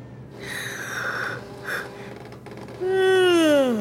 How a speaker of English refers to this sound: The assistant lets out a loud yawn. She's exhausted, but she doesn't want another cup of coffee. She's jittery enough already.